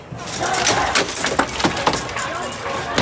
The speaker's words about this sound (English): This is the moment protesters smashed through the doors of a Columbia University building overnight, taking their demonstrations to a new level.